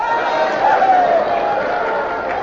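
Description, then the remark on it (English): A crowd cheers and shouts in a dense, steady roar of many overlapping voices, holding at an even, fairly loud level for a couple of seconds. “You'll cheer, too, for Quaker Puffed Rice or Quaker Puffed Wheat.”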